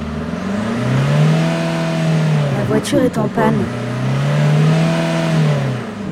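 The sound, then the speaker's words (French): A voice imitates the engine of a broken-down car revving, with a steady droning rev, a brief sputtering, stalling patch in the middle, then the revving drone again, loud. “Et en plus, la voiture est en panne.”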